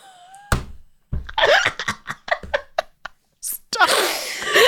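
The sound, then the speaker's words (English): Someone who cannot whistle tries to whistle but produces only breathy blowing: a string of short airy puffs and hisses, ending in a longer rush of breath, with just a faint thin tone early on. “I can't go whistle. Try. Try.”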